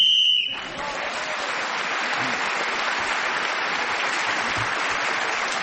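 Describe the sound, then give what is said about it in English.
A short, shrill game show whistle blast sounds at the very start, going off while Clement Freud was speaking, steady and high-pitched, then gives way to a long burst of steady applause with no talking. “Clement Freud was again speaking as the whistle went and has increased his lead.”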